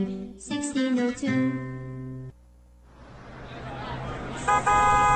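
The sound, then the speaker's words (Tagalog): A jeepney honks several loud, blaring horn blasts, then its engine rumble swells as it pulls in, ending with another short honk. “Tara na, yan na yung jeep.”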